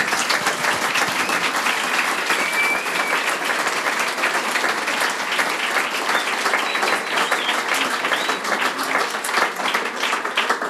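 Sustained audience applause fills the whole stretch, a dense, steady wash of many hands clapping at once, loud, with no pauses or speech breaking through; applause for a panel discussion round.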